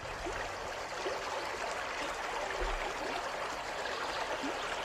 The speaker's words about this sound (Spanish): ¡Ay, la naturaleza! Sí, esto de escuchar el sonido del río, mira como hoy, pero bueno, nos encanta porque es el río Buitrago de Lozoya, cuéntanos. Es el río Lozoya que rodea a este precioso municipio.